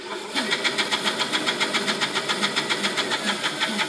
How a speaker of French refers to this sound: Ça veut dire, je prends mon carrelet, je le coupe à la scie à ruban ici.